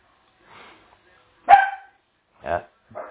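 A dog barks in short, sharp bursts: a faint first bark, then a loud one, followed by two more at irregular intervals, with quiet gaps between them.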